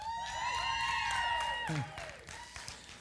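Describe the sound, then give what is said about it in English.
A large crowd cheers loudly, with high whoops and scattered clapping rising over the din. The noise holds strong for under two seconds, then fades to a softer murmur of lingering applause. “So if you're not from around here, they're not really cheering for me, okay?”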